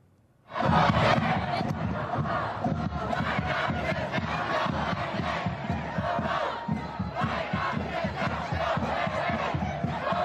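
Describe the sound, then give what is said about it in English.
A large crowd in Pennsylvania, during President Biden's visit, chants the political slogan "Hey, hey, ho, ho, Bidenomics has got to go" in unison, loud and sustained with a steady repeating cadence, starting abruptly and continuing throughout without pause. “The crowd is chanting, hey, hey, ho, ho, Bidenomics has got to go.”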